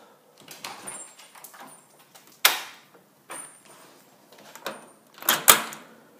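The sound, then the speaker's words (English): A house's front door is unlatched and opened as someone leaves the house, with a sharp click of the handle, some rattling and rustling, then a second loud thump as it swings. No one speaks. “So let's exit the house.”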